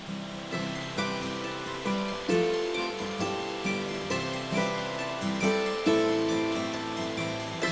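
The steady rush of a real waterfall roars continuously beneath gentle instrumental music with sustained, shifting chords; no voices, the water and music blending at an even, moderate level throughout.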